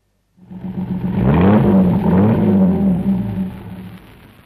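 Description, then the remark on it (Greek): A car engine starts up, revs loudly with a rising and falling whine, then pulls away as the car heads for a garage and fades somewhat toward the end. No voices. “Έχω το αυτοκίνητο μου εδώ. Με λίγη τύχη θα το προλάβω.”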